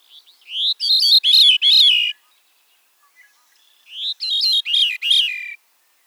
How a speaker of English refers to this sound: The song of the Bicknell's thrush may be confused with that of the veery. The veery's song is a resonating de-veer, veer, veer, veer, descending slightly in pitch.